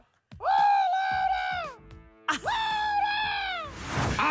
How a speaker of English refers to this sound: This is a chicken shouting Laura. And have a listen to the evidence.